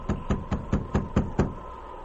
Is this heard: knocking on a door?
yes